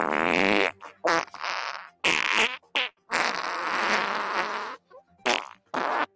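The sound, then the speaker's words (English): A loud sequence of fart sound effects: several sputtering bursts, some short and some drawn out into a long, rippling blast, separated by brief pauses with no talking. “And in an effort to win back public support, Boeing has released its newest farting plane.”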